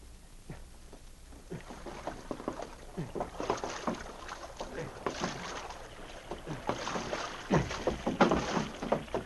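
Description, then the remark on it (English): A canoe being paddled through water, with steady, rhythmic splashing strokes that grow a little louder and busier toward the end, over a soft wash of moving water. “Trainer said he was taking a canoe. So will we. We can make just as fast time that way.”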